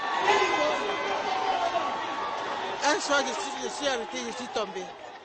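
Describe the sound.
A large crowd at a mass prayer session led by the Reverend Osborne roars and cheers loudly and continuously as a woman leaves her wheelchair and walks onto the stage, a dense wall of excited voices, with a few individual shouts rising above the din in the second half.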